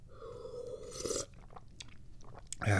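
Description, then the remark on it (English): A drawn-out slurp as someone sips tea, rising to a louder suck, followed by soft mouth clicks and swallowing noises and a final noisy sip. “And I'm going to take a few more sips of this tea.”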